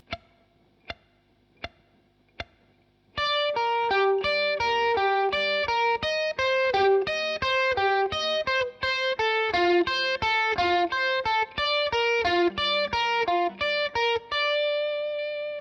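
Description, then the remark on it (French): Four sharp clicks mark the start, then a distorted electric guitar slowly plays a triad motif, each string left ringing and overlapping into a thick, sustained wash of sound. “C'est-à-dire, en laissant sonner les notes, les cordes plutôt. Voyons l'ensemble au ralenti.”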